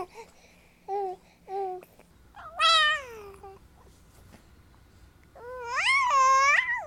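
A baby makes a series of soft, high coos: two short flat chirps, then a longer rising-and-falling warble, and after a pause a louder, drawn-out wavering coo.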